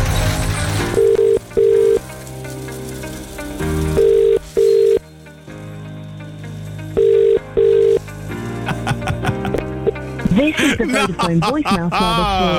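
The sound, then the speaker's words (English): A redialled outgoing phone call rings out in repeated pairs of steady mid-pitched tone bursts, three rounds in all, over a busy background. It ends in a burst of warbling, sliding sound as the call reaches the Vodafone voicemail service. “Let's dial again.”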